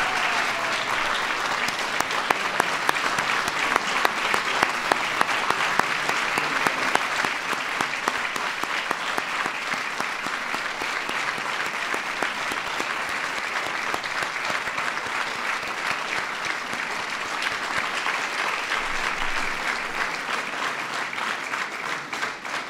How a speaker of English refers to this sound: Ladies and gentlemen, please give a big round of applause to all the honorees.